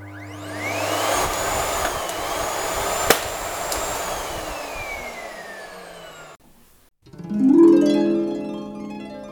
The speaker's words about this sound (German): Auf einmal ging alles ganz schnell. Bernd nahm Ellas Staubsauggewehr und richtete es auf sie.